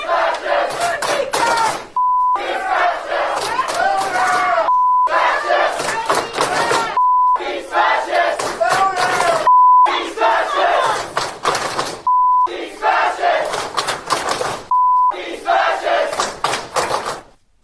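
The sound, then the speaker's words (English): A loud crowd of college students at the University of North Texas chants in unison and claps in protest against a visiting speaker, the rhythmic shouting broken up every couple of seconds by a short, steady mid-pitched bleep. “Here is a group of college students universally clapping and chanting”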